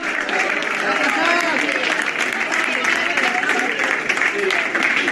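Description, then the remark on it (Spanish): About 100 fans at Asturias airport applaud steadily and fairly loudly as their football team arrives at 2 in the afternoon, a dense wash of clapping mixed with cheering voices and chatter, sustained without pause; some are emotional, crying and holding banners. “En torno a 100 personas, más o menos, estaban esperando al Sporting, entre aplausos, incluso gente emocionada, llorando con pancartas, orgullosos de su equipo.”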